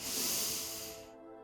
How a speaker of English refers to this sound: Second breath. In for four. Hold. Release. Last time, breathing in.